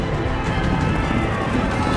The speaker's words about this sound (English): Suddenly they can hear thousands of hoofbeats getting faster and more rapid. The ground beneath them would have been shaking as the Australians got closer. And then it's just a flat-out charge across open ground.